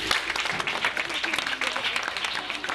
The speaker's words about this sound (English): Clap for him.